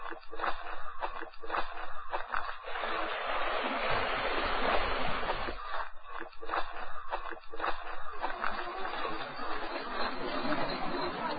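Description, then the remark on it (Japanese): The Susuki River (Susukigawa) crosses the road into Matsumoto, Japan, where a bridge spans it; the river flows steadily with a continuous rushing, gurgling wash that swells slightly at times, moderately loud, with faint indistinct voices in the background. “また右手より薄川の流れが道を遮るから、橋を渡って川を越える。”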